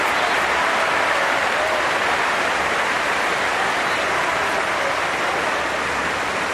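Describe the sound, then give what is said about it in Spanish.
A large arena crowd at the centre court of the Chapel Arena gives a sustained, roaring ovation for Carolina Marín after her knee injury, dense applause and cheering filling the space steadily from start to finish with no pauses. “Escucha la ovación ahora mismo.”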